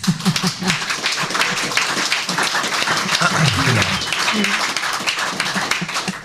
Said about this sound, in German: Genau, das freut mich, dass wir da eine Praktikerin und ein Praktiker im Publikum sitzen haben. Vielleicht haben wir mehrere. Ich würde sagen, das ist ein Applaus wert.